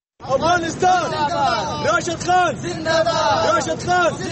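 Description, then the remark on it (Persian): A dense crowd of Afghan cricket fans living in Pakistan chants and cheers for Afghanistan's team at a Champions Trophy cricket match in a stadium, many voices overlapping in loud, rhythmic rising calls that repeat steadily, energetic throughout. “تعدادی از افغانهایی که در پاکستان زندگی می کنند با وصف دشواری ها و مشکلات موجود در آن کشور تلاش می کنند تا به تماشای مسابقات کرکت رفته تیم کشورشان را تشویق کنند.”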